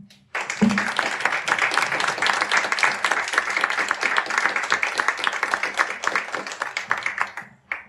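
Sustained applause from an audience closing a presentation of the third book in the Woordentemmen series, many hands clapping in a dense, steady wash that swells quickly at the start and continues for several seconds before beginning to taper.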